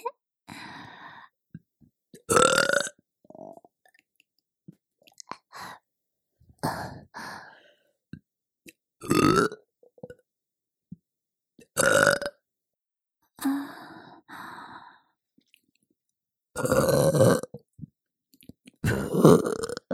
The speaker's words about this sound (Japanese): それじゃ、ママのミルクゲップ、ちゃんと召し上がれ。